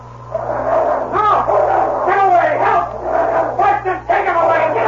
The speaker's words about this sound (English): suddenly the gray shape of a big dog hit him squarely between the shoulders, and he sprawled in the snow.